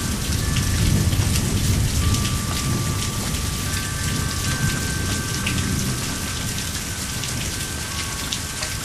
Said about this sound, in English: We got a good bit of rain. It goes right downhill, too.